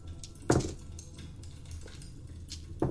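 Dice rattle and clatter on a hard surface in a few short bursts of sharp clicks, with one louder tumble early on and quieter taps after, over a low background hum.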